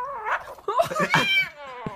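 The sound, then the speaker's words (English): A kitten growls over a piece of steak it will not release, in a continuous, warbling rumble that rises into yowl-like wails and dips again, lasting a couple of seconds with no talking. “The kitten that will not release the piece of steak.”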